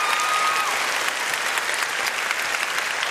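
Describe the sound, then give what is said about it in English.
An audience applauds steadily for the leader of the Shouts of Joy kindergarten choir, a dense, even wash of clapping that stays loud and sustained for the whole stretch without any voices breaking through. “would you mind standing up so we can give you a big round of applause right here?”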